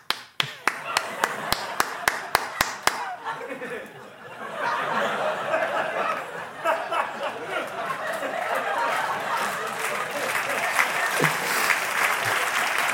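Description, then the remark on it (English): A quick run of sharp, evenly spaced hand claps, about a dozen, presented as Mike Pence clapping as he runs, then a steady wash of crowd applause mixed with murmuring voices that carries on to the end. “He claps when he runs.”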